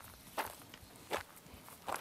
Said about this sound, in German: Ja, ich höre dich gehen. Und du gehst immer noch?